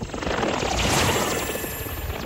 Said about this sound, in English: He watches sleepily as Amy's drone whizzes past.